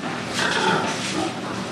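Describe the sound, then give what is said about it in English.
More than 1,000 pigs grunt and squeal together in a crowded, immense new hog barn on a family farm, a dense, continuous animal din that swells slightly midway and stays fairly loud throughout. “Bob Lilienthal built an immense new hog barn,”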